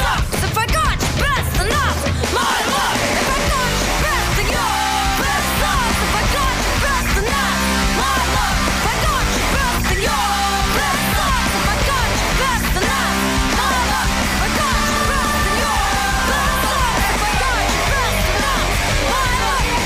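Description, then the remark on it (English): A loud, full band theme song for the Hollywood Report plays throughout, with a shrill, strained, almost screeching lead vocal riding over driving instruments and a steady beat. “And if that whiny screeching on that song sounds familiar, a little.”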